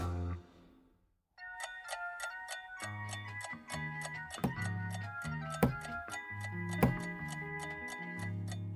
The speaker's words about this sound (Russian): Вот и Новый год скоро. Уже часы бьют. А мне кажется, это не часы бьют, а кто-то ногой в дверь стучит.